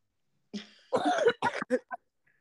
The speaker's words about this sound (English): I'm so sorry that I also am coughing. I don't know what happened to me between today and yesterday, but like I got a little cough. I apologize.